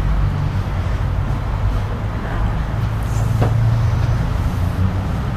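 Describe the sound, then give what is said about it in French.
A steady low rumble of road traffic, with cars droning past outside a window, muffled, swelling slightly midway with a passing vehicle. “Parce que du coup, près de la fenêtre, j'entends les voitures.”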